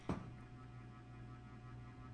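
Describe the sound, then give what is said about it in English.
A steady, low electronic hum from the cooling fan of a new computer graphics card, with a microphone held up to it, drones on evenly, faint and unbroken after a brief soft bump at the very start. No one speaks. “It could be my I have a new graphics card, and it has a fan on it.”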